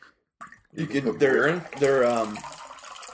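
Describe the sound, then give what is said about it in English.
Water pours into a cup, its hollow, rising gurgle climbing in pitch as the cup fills, in two short pours lasting a couple of seconds. “Could you pass me some water, by the way?”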